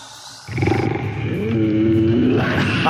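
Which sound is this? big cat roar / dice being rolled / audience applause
big cat roar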